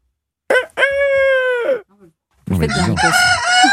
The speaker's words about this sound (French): On écoute le coq, on y est presque.